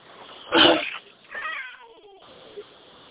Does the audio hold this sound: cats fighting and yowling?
yes